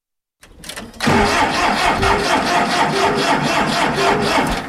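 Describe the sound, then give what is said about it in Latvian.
A tractor engine cranks briefly, then catches and settles into a loud, steady rumble with a regular pulsing chug. No one speaks. A pensioner in Asūne parish, Krāslava municipality, Latvia, drives it back into his yard after milling a neighbour's field. “Iegriezis traktoru atpakaļ savā pagalmā, pēc tam, kad izpalīdzējis un nofrēzējis kaimiņam lauku”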